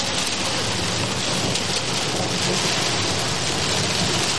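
A heavy, steady downpour of hail pelts hard surfaces in a dense, constant hiss, with a low rumble of thunder underneath, depicting the biblical hail that fell on Egypt. The storm stays loud throughout, with no voices.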